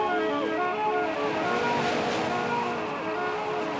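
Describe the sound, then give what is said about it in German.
Steady sea waves wash around a small boat out fishing far out on the open sea, a continuous rushing surf sound with a faint wind, fairly loud and unbroken throughout, with no voices. “Lass uns auf Fischfang gehen. Weit draußen auf dem Meer.”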